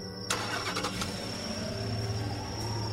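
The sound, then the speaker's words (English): A car engine cranks briefly and catches, then settles into a steady idle with a low rumble and a faint high whine, with no voices. “Sure enough, it started up, with a sigh of relief from all three of us.”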